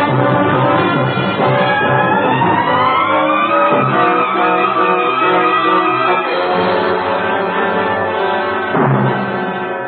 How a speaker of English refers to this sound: And I chased the car, Mr. Taylor, but they got away.